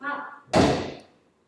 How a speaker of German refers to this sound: Okay, mach die Tür zu.